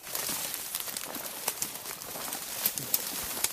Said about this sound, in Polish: Podążamy za ptasimi głosami. Nasłuchuje ich pan Michał, który perfekcyjnie wyłapuje kierunek, z którego dochodzi dany odgłos ptaka.